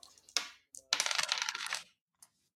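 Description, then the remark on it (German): Dice rolled for a Sinew check clatter and tumble across a hard tabletop in a quick burst of bright rattling clicks, settling after about a second, followed by a faint final tap. “Wahrscheinlich muss ich jetzt würfeln. Ach so, stimmt. Du musst wieder Sinew würfeln.”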